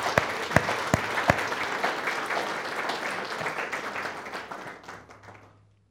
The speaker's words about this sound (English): Now let's just applaud what God's love can do.